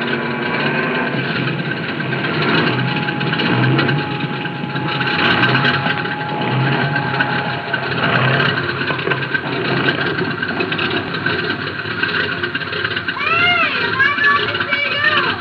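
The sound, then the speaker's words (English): A small aircraft engine drones loudly and steadily as the plane lands on a road beside sand, a constant rumble, with brief wavering whines rising and falling near the end as it settles onto the ground. “Can you land there, Mason?”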